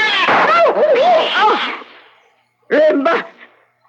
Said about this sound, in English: That cat was mad. It was attacking.